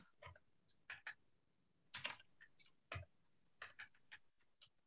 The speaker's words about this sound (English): How do you hear his keyboard, too?